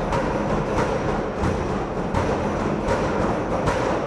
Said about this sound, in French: Les détenus frappent les portes de leurs cellules. C'est l'heure de la promenade.